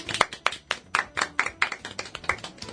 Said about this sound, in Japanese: はい、 ありがとうございます。拍手。